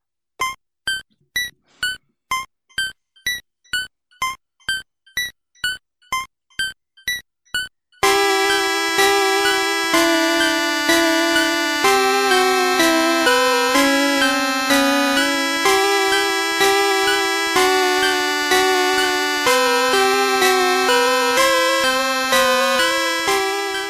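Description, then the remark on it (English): Game Boy startup sound, Japanese version, recorded off a Game Boy Advance: a run of about a dozen evenly spaced bright, plucked electronic tones, then dense, buzzy sustained chiptune chords pulsing on a steady beat. No voices. “This is recorded off of Game Boy Advance, by the way.”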